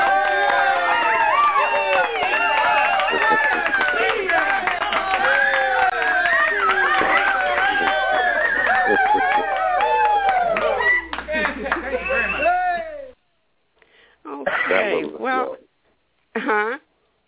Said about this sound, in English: We're going to give you a great big round of applause.